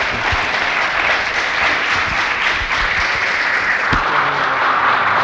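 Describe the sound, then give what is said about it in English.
A large audience applauds steadily, a dense, sustained wash of clapping filling the whole stretch at a loud, even level with no voices breaking through. “So let's give him a hearty round of applause”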